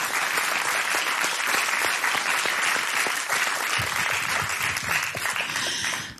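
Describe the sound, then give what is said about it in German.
A large crowd at the Reeperbahn Festival applauds steadily for an act on stage, a dense, continuous wash of many hands clapping that stays loud throughout before easing slightly at the very end. “Ein großer Applaus nochmal.”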